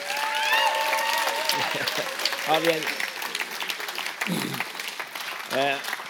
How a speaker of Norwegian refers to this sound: Og gi han en god applaus. Ja.